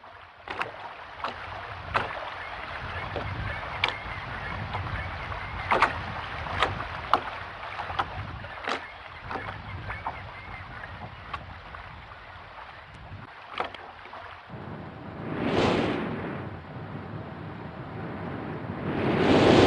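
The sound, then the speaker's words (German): Steady rushing of waves lapping against a harbor quay wall on the island of Myst, with wind blowing over it, scattered sharp knocks and creaks throughout, and a louder surge of water and gusting wind near the end. “Das Rauschen der Wellen, Rauschen des Windes.”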